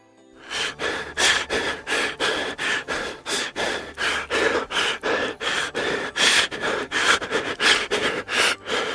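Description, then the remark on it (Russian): A reindeer breathes heavily and with difficulty during a halt, panting in quick, steady, loud bursts, about two rasping breaths per second, continuing without pause, with no talking. “Один олень с трудом дышал.”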